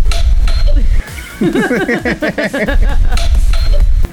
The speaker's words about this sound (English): It's actually embarrassing. Hits the doorbell. Inside, you'll hear this sound.